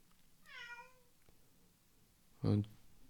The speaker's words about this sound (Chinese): 也许大家刚才听到一声猫叫，那是。Snow M 的标志。